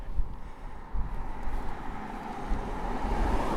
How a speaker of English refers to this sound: But yeah, the other thing to get used to is the traffic. There's another car coming. This is a single file road.